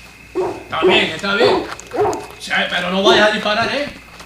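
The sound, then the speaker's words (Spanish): A dog barks repeatedly in short, sharp, loud bursts, with some higher yips mixed in, while people's voices can be heard alongside. “Y calla ese perro.”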